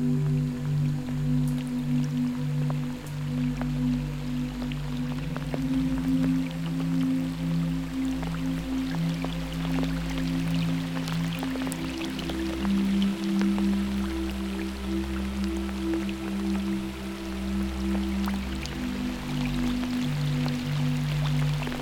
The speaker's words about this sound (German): Denn es beginnt zu regnen.